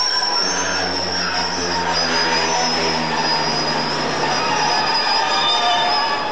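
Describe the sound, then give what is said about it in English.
A train creeps along its rails under braking, almost stopped but still doing 2 or 3 miles an hour after the signal came off yellow, a steady high-pitched squeal and hiss over broad rumbling noise, with a low droning hum that fades out partway through. “As you can hear by the noise, he's almost stopped me, but we're still doing 2 or 3 mile an hour, and the weight is starting to budge into me and the speed will start picking up now.”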